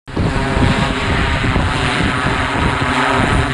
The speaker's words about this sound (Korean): 2020년 코로나19 팬데믹으로 막힌 하늘길을 자유롭게 비행한 것 바로 드론입니다.